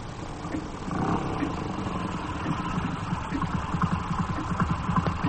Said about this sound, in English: It's a motorcycle and sidecar. It's pulled up in the courtyard.